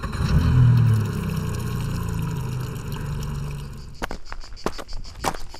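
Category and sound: vehicle, boat motor running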